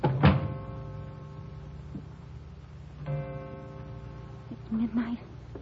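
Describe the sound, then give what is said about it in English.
A door thuds shut once near the start, a single dull knock, followed by a steady droning hum, with a short burst of voice toward the end. “You'll close that door behind you, please.”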